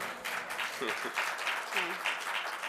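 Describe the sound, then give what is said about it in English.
An audience applauds with a steady, dense patter of clapping that holds at an even, moderate level throughout, while a voice briefly murmurs underneath. “Yeah, I'm surprised we didn't get more applause on that.”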